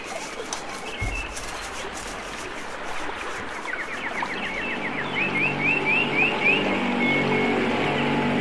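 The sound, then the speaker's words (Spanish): A motorboat engine on a river drones and grows steadily louder as it approaches, its low hum rising over the rushing river water while birds chirp and trill in repeated bursts. “Además, ya ni se puede estar en paz aquí en el río, porque aparecen haciendo ruido con esa lancha.”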